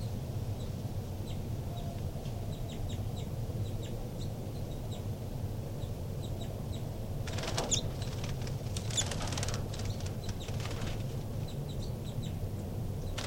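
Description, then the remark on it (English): Two new baby birds that have left the nest flutter around while climbing a screen, in a few short, scratchy bursts of wingbeats, while faint high peeps come and go over a steady low hum throughout. “Babies are fluttering around.”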